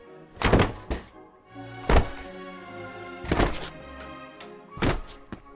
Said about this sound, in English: Once that is removed, hit the chair against the floor until it is dismantled.